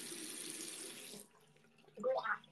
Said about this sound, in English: I accidentally swallowed some of the stuff. Swallowed some of the water I was gargling with.